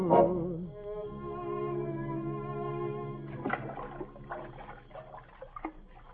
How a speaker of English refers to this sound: Oh, I'm rowing over to the amusement park across the river. Gee, you know, I'll bet... You know, I'll bet this same boat has carried so many couples in love.